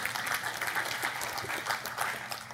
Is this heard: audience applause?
yes